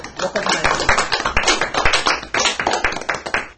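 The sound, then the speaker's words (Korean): A group of people applauds, many hands clapping in a dense, irregular crackle that stays steady and fairly loud for a few seconds before tapering off at the end. “그래서 여러분도 우리 예수님 역할도 해주시고 그 다음에 유대인 역할도 해주시고 그 다음에 38년 된 병자 역할도 해주시고 여러분들한테 우리 박수로 예.”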